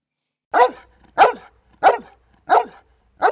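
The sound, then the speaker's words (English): A dog barks five times in a steady, evenly spaced rhythm, each bark loud and clear with short silent gaps between, no voices present. “Why is that dog barking?”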